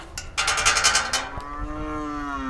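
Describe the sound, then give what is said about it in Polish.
A young calf in a cowshed gives a single drawn-out moo, starting with a breathy, noisy burst and settling into a steady, tonal bleat that fades out, with no talking. “Właśnie się odezwała młoda.”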